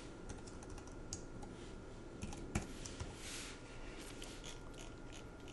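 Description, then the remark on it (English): Steady typing on a computer keyboard as Control-A and then the delete key are pressed, a continuous patter of quick key clicks with a few slightly louder strokes, heard alone without any talking over a faint background hum. “And I'm just going to hit Control-A on my keyboard and then the delete key.”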